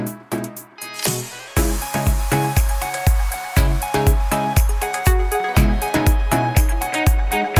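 A Persian pop song plays loudly, opening with a brief noisy swell, then a steady, punchy bass-drum beat drives on under bright layered synths and percussion, without singing.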